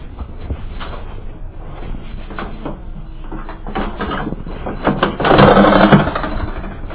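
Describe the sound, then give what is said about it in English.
Shuffling movement and a few soft knocks lead into a door being closed, sliding or swinging shut with a brief rushing scrape near the end, over a steady low rumble. “So probably if I go close this door, I won't hear it as much.”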